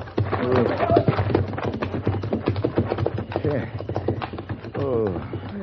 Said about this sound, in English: Thank you for the horses, senor.